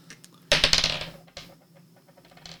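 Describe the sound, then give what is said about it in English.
Dice clatter across a hard tabletop during a tabletop role-playing game, a sharp burst of rapid clicks, rattling briefly before a second, softer tumble as they settle, fairly loud with no voices. “All right, then we shall go with the R1 dice and hope this works out.”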